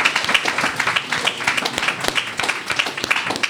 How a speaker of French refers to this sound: On peut l'applaudir.